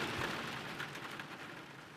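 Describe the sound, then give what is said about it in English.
A steady, even hiss of rain falls without pause, broad and fairly soft, with a few slightly brighter spatters but no voices. “Finally, the rain stops, and we make our way to the creek.”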